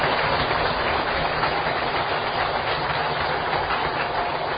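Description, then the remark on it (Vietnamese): Sustained, dense applause from a large crowd, steady and loud throughout with no voices rising above it: a Buddhist audience applauding to welcome the Venerable Thích Phước Tiến, a Dharma lecturer. “Toàn thể đạo tràng cho một tràng vỗ tay thật lớn để cung nhân Đại Đức.”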